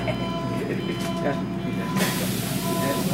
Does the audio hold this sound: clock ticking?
no